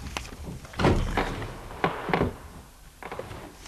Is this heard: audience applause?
no